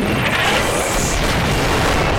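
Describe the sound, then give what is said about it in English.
A loud, deep cannon blast fills the whole moment, its heavy low rumble and crackling roar sustained throughout, powerful, with no voices. “Fight cannon.”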